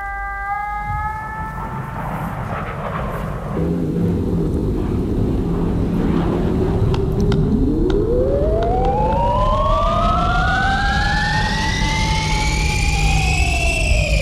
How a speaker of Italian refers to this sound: Sirene.